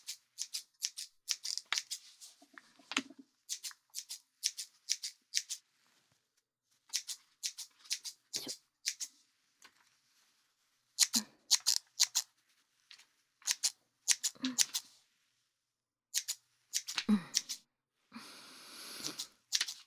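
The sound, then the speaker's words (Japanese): Scissors cutting a customer's hair during a haircut: crisp, bright snips come in quick clusters of three to six, separated by short pauses, ending in a longer rasping run of cuts. No one speaks. “って、まあ、もうカット始まってるから意味ないんですけど聞いてみただけでーす。”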